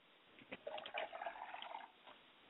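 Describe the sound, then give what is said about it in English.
Water is poured out as a libation, splashing in a short burst lasting over a second, moderately loud, then tapering off with a faint drip. No one speaks. “I like to pour libation for my mother's spirit, and I say Ashe.”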